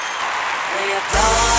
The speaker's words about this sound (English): I think we should have an applause track in there or something. We should. Steve, cue the applause.